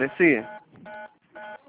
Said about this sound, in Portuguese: A senhora está digitando algum número. Ah, pera. Bom, vamos ver se melhorou. É porque às vezes eu seguro o telefone mal segurado.